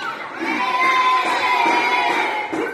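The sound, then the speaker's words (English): Several children shout and squeal excitedly at once while playing on a raft in a pool, a lively high-pitched jumble of voices that stays loud and steady throughout the short stretch of playful splashing fun. “But she clings to these few seconds of her kids on a raft in a pool in a video.”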